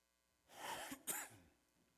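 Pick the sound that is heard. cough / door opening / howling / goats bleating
cough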